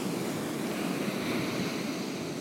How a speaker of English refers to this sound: Sounds so nice. I mean, if you like the ocean, it sounds nice.